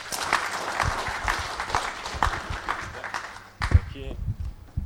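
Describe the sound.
An audience claps in a dense, steady patter of many hands, fairly loud, then the applause thins out and dies away near the end while a voice briefly speaks.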